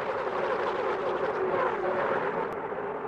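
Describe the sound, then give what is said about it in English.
A steady, loud engine roar with a bright, tonal whine that swells and shifts slightly in pitch, as IndyCar race cars scream past in a continuous stream at an IndyCar race, with no pauses or talking. “It's exactly what an IndyCar race sounds like.”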